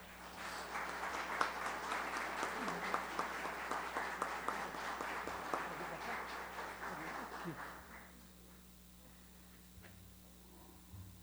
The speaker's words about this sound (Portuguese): o qual eu peço uma grande salva de palmas.